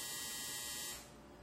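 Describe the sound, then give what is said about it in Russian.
A washing machine's harsh electronic buzzer sounds loud and steady for about a second, then cuts off abruptly, leaving quiet room tone. Nobody speaks. “Стиралка.”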